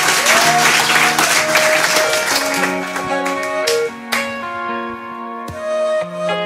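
A crowd at a show recorded in Valmorel applauds loudly for a singer about to perform, with dense, steady clapping for a couple of seconds, which fades as music with sustained tones and chords begins and carries on.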